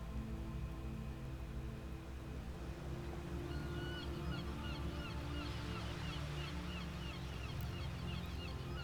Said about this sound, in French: Le craquettement des cigognes installées sur le port nous parvient et se mêle à celui des goélands et des mouettes, lesquels caressent presque les vagues de leurs plumes tant ils volent bas.